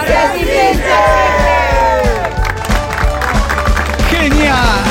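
A large crowd chants loudly in unison, voices rising and falling together in a steady rhythmic shout, backed by regular low thumping beats throughout.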